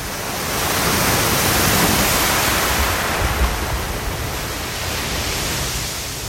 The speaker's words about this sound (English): And a couple of your submissions feature California, starting with the crashing waves at Point Lobos near Monterey Bay from Christopher Dunn.